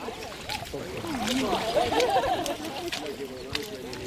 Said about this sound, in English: About half a dozen brave people are wading out into the water. They're wearing wetsuits or waders, and judging by their reaction, I think the water's quite cold. And they've each got a kite into which they'll put the mussels that they find.